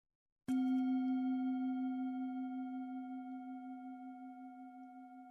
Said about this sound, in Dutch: Als je de bel hoort, begint de bodyscan.